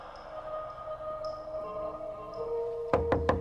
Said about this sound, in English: A severe-looking woman knocks on the door of a modern apartment. FBI, I'm looking for Mitch Anderson.